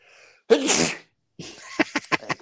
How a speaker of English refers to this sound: I'm about to sneeze. I don't know when, but just to let you know it's coming and it's coming hard. Right nostril, so on fire all of a sudden. Hang on.